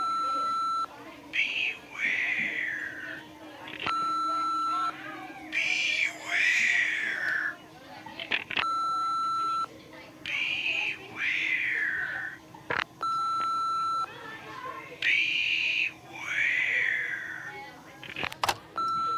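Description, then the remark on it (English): Answering machine playback of anonymous calls: four breathy, warbling whispered messages in a row, each cut off abruptly by a hang-up and separated by short electronic beeps and clicks, moderately loud. “Someone keeps calling, whispering, then hanging up. I got so bugged I stopped answering the phone. Here, listen to the answering machine.”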